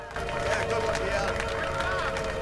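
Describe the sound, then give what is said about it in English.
Firefighters applauding a colleague at a house fire, with dense, steady clapping that holds at an even level throughout, mixed with a sustained tonal hum and a murmur of voices. “His colleagues applaud him.”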